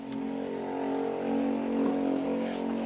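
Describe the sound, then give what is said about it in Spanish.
A motorcycle engine runs steadily, a continuous droning hum that swells slightly partway through without revving sharply. No one speaks. “¿Se escucha la moto? Sí, se escucha”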